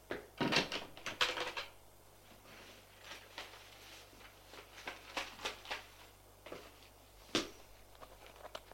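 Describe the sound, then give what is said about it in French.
A wardrobe door thumps and creaks open, followed by soft rustling, light knocks and clicks as a bag is pulled out and handled, then one sharper knock near the end. “Va prendre son sac qui est dans l'armoire.”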